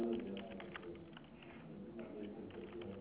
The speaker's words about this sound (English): Why are you typing when I haven't even said anything? I can hear you're typing.